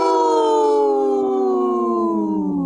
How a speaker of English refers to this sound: My wolf sounded hurt.